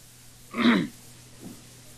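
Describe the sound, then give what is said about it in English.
A single short cough or throat-clear bursts out from an audience at a talk, then a fainter rustle or murmur follows about a second later, with no talking, against a quiet background. “If you need someone to massage your shoulder blades, if you need to stand up and stretch your legs, if you need to wriggle about, if you need to cough your guts up, this is the moment to do it.”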